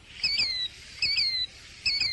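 A killdeer calls from behind bushes three times in a steady rhythm, each shrill, high two-part cry ringing out clearly over a faint, quiet outdoor background with no one speaking.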